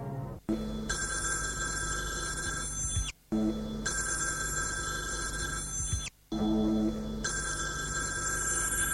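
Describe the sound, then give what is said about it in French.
A telephone bell in a living room rings in three long bursts separated by brief pauses, loud, with a steady high-pitched trill and no voices. “Téléphone a sonné.”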